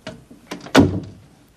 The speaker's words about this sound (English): She walks in and shuts the door.